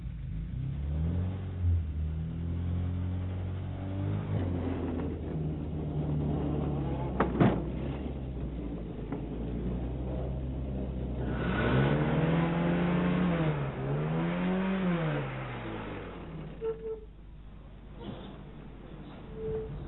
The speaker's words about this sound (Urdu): پتہ نہیں کیا ہو گیا اسے. ارے وہ پیر ایکسیلیٹر سے ہٹاؤ تو اسٹارٹ ہوگی نا، لگتا ہے بڑی جلدی میں ہو.